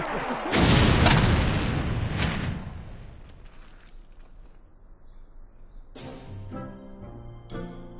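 cannon firing boom

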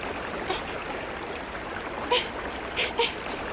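flowing stream water

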